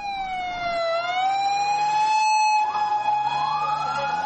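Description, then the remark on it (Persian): Sirens of dozens of ambulances heading to the site of a powerful explosion in Lahore, Pakistan, wail continuously, a steady high-pitched tone sliding slowly up and down, loud throughout, with a low engine rumble underneath and no talking. “به دنبال انفجار نیرومند در لاهور، ده ها امبولانس به محل رویداد حرکت کردند.”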